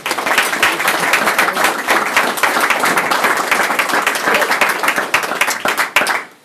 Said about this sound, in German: Und ich darf Sie ganz herzlich bitten, ihn mit viel Applaus zu begrüßen.